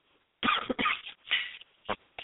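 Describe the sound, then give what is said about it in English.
A dry hacking cough in a rapid burst of several harsh coughs, followed after brief pauses by two shorter single coughs. “I have this dry, itchy cough.”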